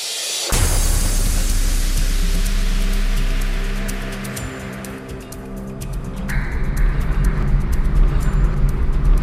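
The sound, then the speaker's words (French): Steady low rumble of a police officer's car driving to a burglary scene in Colombier, heard from inside the cabin, with engine drone and road noise that dips briefly then swells again, plus faint rattles and ticks throughout. No one speaks. “on est donc dans votre voiture.”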